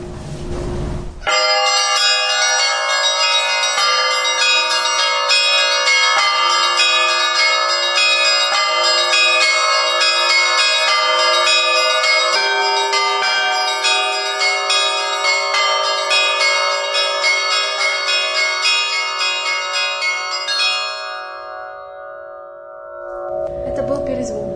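Church bells ring out in a continuous perezvon peal, of the kind rung at the start and end of a church service. Several bells are struck together in a dense, shimmering wash of overlapping tones. The ringing is loud, then fades away near the end.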